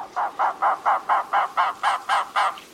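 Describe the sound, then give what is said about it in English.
An Arizona woodpecker gives a steady series of about ten harsh, squawking notes in quick, even rhythm, mid-pitched and fairly loud, with no other sounds or voices. “Arizona woodpeckers are brown overall, with a white and brown cheek and heavily marked white underparts, unlike the black and white plumages typical of other North American woodpeckers.”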